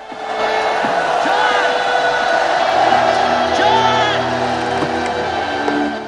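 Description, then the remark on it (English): A large waving crowd cheers and shouts in a continuous, dense, loud roar, with individual voices whooping and calling out above the din for the whole stretch. “The waving crowd hinder Troutman and Griggs' progress.”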